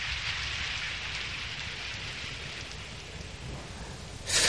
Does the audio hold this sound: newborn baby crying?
no